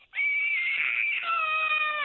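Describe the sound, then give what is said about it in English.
A 5-year-old girl lets out a loud, shrill, sustained scream, imitating her mother's angry yelling, holding the strained cry for about two seconds before it drops slightly in pitch. “Like, what does it sound like when I yell?”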